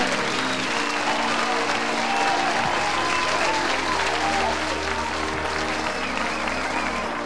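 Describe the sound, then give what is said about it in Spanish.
Sustained audience applause at UPR Humacao after a winning golden goal in a game, a dense steady wash of many hands clapping at a fairly loud, even level for several seconds, with a low tonal hum underneath. “Ah, a ti te aplaudo,”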